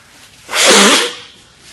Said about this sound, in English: Blowing my nose and hacking and coughing, eyes running. I'm going to try to preach in between it.